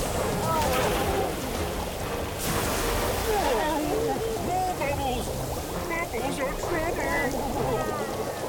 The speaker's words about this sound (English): Giant clams and sea squirts, get ready. Set. Squirt! The clams and squirts blast the starfish with bubbles, forcing them backwards.